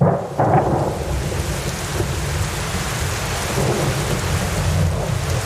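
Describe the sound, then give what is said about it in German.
Steady, dense rain patters continuously against Luca's window, falling all day since early morning, with a deep rumbling low end like thunder underneath; no voices, just an unbroken wash of rainfall throughout. “Es hat heute geregnet. Den ganzen Tag, von früh morgens, ich hörte es schon, als es noch dunkel war, das leise Trommeln der Regentropfen an Lukas Fenster.”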